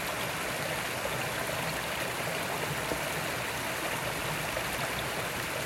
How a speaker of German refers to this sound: Lass den Fluss dieses Gefühl umfließen, umschmiegen. Es plätschert.